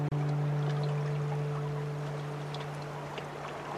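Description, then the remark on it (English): Water sloshes and laps gently around a small boat, with a steady low hum running underneath and faint splashy ticks scattered throughout, continuous. “Is this the boat that'll take me across the mirror of water?”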